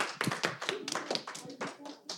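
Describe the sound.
An audience applauds with steady, overlapping hand claps, moderately loud, while a few voices call out or cheer faintly beneath the clapping.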